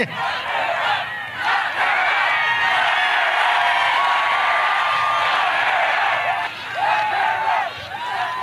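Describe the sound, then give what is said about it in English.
A large rally crowd roars and cheers continuously, with shouts and whoops rising above a dense wall of voices, loud and sustained throughout with a few brief swells. “We have a feisty crowd today, Marco.”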